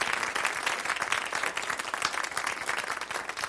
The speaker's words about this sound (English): Let's give Maureen a round of applause.